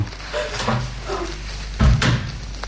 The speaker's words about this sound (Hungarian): Becsukom a szobája ajtaját, nehogy felébressz a beszédünk.